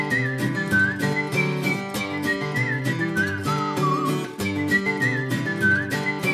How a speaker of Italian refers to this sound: Ogni volta che ascolto questo jingle poi penso che sarebbe il caso di cambiarlo. Tutte le volte. Poi è la mia voce, tra l'altro.